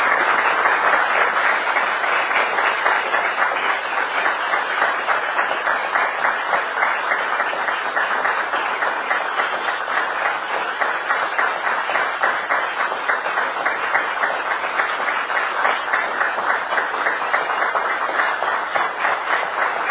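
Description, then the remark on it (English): Sustained applause from a large audience, a dense, steady wash of many hands clapping that stays loud and even for the whole stretch, with no voices rising above it. “God bless every one of you for your goodness and all your applause.”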